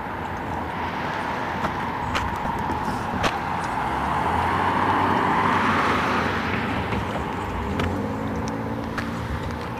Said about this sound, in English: Pretty quiet. People gone to work, I guess. Now watch 25 cars come by and make a liar out of me.